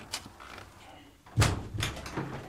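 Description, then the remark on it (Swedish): A heavy door of the church in Brunnby swings open with a loud, resonant thud and creak at the start, followed by a few lighter knocks and scrapes as it settles, with faint voices in the background. “Och det brukar vara den här dörren som är öppen.”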